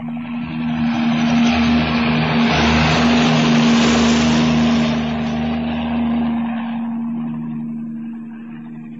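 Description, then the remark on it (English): The president's helicopter, leaving the White House, passes overhead, its steady engine drone and rotor roar swelling loud to a peak midway, then gradually fading as it moves away. No one speaks. “Did you see the president leaving the White House in his helicopter?”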